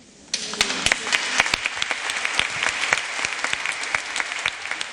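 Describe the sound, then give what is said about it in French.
Diocesan faithful and priests applaud the newly appointed bishop, Monseigneur Jean-Marc Mika, inside the cathedral Notre-Dame de la Cède in Tarbes, the clapping starting suddenly and continuing as a steady, dense patter of many hands with sharper individual claps standing out, no voices heard. “Voilà, Monseigneur Jean-Marc Mika, notre évêque nommé, qui est applaudi par les diocésains et par les prêtres dans cette cathédrale Notre-Dame de la Cède à Tarbes.”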